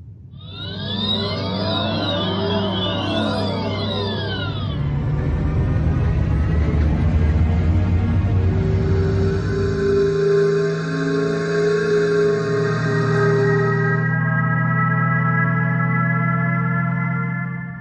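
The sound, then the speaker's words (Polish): An electric car's pedestrian warning sound: warbling, pitch-bending synthetic tones that settle into a steady, layered electronic hum, loud and continuous with no voices. “W ubiegłym tygodniu przedstawiałem gamę dźwięków emitowanych przez samochody elektryczne od popularnych po te z górnej półki. Większość generalnie sprowadzała się do podobnych temu.”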